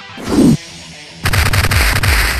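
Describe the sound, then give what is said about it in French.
Cartoon fight sound effects of 349 punches and a few karate holds: a short whooshing thump, a brief pause, then a loud, rapid flurry of punches and crashing impacts piling on top of each other until the end. “Après 349 coups de poing et quelques prises de karaté.”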